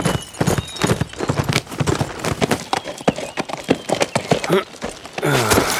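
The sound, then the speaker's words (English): A big horse named Stormy, ridden, gallops along an old road after rain, its hooves pounding out a fast, loud, uneven clatter of sharp strikes, ending with a brief snort or whinny. “Frank came to a spot in the old road that was not a mud pile and let Stormy have his head.”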